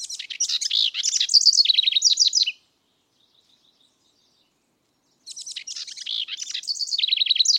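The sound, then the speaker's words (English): A house wren sings from deep inside a thicket: two long, bubbling, rapid songs of chattering trills and buzzy notes, separated by a few seconds of near silence with faint chips, clear with no voices. “A house wren sings from deep inside a thicket.”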